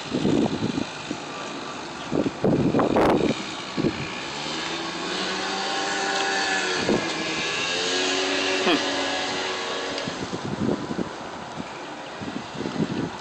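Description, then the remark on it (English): A motor scooter engine buzzes past, its whiny tone rising and then dropping as it goes by, with wind rumble on the microphone and brief voices around it. “Scooter.”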